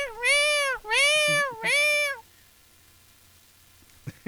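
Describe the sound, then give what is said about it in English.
A female cat meows three times in quick succession, loud, each cry long and wavering, followed by quiet room tone and a brief faint sound near the end. “Ruby, shut up! God, that cat!”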